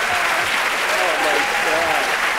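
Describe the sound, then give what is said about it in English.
Steady, dense applause from a large crowd, from the last side of a four-record vinyl set of a long speech, many hands clapping at once in a continuous roar without pause, with a faint murmur of voices mixed in beneath it. “You were both wrong. It's the applause.”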